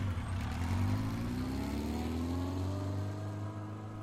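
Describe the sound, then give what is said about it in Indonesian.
A motorcycle engine is started and runs loud, its pitch climbing steadily as it revs up, with a low rumbling drone underneath and no voices. “Kakak ipar menyalakan mesin sepeda motor.”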